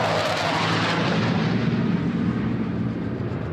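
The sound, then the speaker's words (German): A loud, roaring jet engine rumble fills the whole stretch, a broad continuous thunder with a slowly fading high hiss, as two Polish F-16 fighter jets pass over the Vistula river during a NATO exercise. No one speaks. “Kurz darauf donnern 2 polnische F-16-Kampfjets über die Weichsel.”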